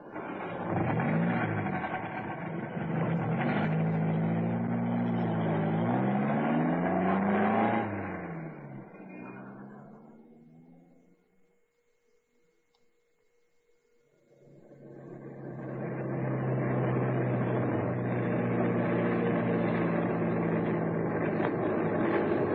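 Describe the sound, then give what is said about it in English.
A saloon car's engine, outside a house, runs and revs with rising and falling pitch, fades down to near silence for a few seconds, then roars back up to a steady, loud running hum. “In fact, hey, now, don't look up, but here he comes, getting into that saloon outside his house. I had an idea that car was his.”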